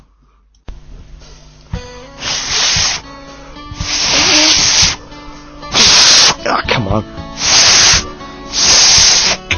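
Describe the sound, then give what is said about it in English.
Repeated breathy bursts of blown air from a man's failed whistling attempts, about five loud hisses with no clear tone, broken up by his short frustrated exclamations. “I'm never gonna be able to whistle.”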